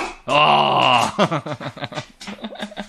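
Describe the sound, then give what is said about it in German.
A person imitates a barking dog, starting with one long drawn-out vocal cry, then a quick run of short, punchy woofs in an uneven rhythm. “Wir einen Podcast für Hunde machen. Wuff. Wuff. Wuff, wuff, wuff, wuff.”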